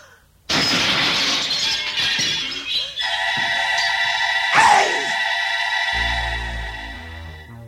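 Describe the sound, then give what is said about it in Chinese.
A loud, sudden crash of a magic mirror being smashed to pieces by a queen, followed by glass shards tinkling and scattering for several seconds, with a lingering ringing shimmer and a low rumble at the end. “魔镜被王后砸得个粉碎”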